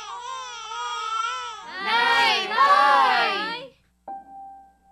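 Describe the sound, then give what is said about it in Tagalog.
A baby cries in rising, wavering wails that build louder and more strained for a few seconds, then break off, followed by a brief quieter whimpering sound. “Nay, umiyak na naman”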